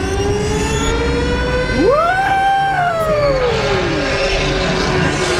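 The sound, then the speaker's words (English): A siren sound effect gives a single loud wail that sweeps sharply upward, holds briefly, then slowly slides back down, layered over a steady droning, rumbling background with no talking. “The the sirens is for the hot take.”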